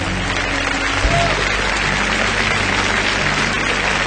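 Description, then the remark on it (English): A crowd breaks into sustained applause, giving the Lord a hand clap: a dense, steady wash of many hands clapping at once with no distinct individual claps, holding at an even, fairly loud level throughout while a low hum sits underneath. “Now, if you receive that, give the Lord a great hand clap today.”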